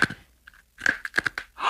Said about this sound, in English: Once, correspondent Ira Flato brought Susan a story about lifesavers. The kids tell me that when you chew on them, they give off a glow, something like a spark or a sparkle. Which they tested by trying it in the dark.